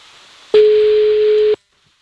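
A telephone ringing tone sounds once while a call is being placed, a steady, one-second electronic beep at a single pitch over faint line hiss, then cuts to silence. No one speaks.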